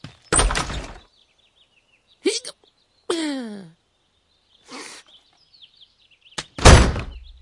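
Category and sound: household object, door being shut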